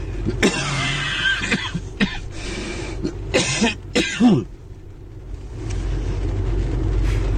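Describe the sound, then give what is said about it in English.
Several heavy, harsh coughs from a man sick with COVID burst out in quick succession, loud, with a throat-clearing rasp among them, before settling into a low background rumble. “The coughing is just terrible at the beginning of this, so apologies about that, but here we go.”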